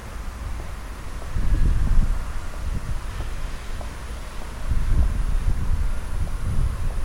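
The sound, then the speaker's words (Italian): Strong crosswind buffets the microphone in heavy low rumbling gusts, swelling around two seconds and again near five, with a constant airy hiss and no voices. “E adesso ce n'è proprio tanto, vento laterale arriva sulle orecchie, le devo aprire.”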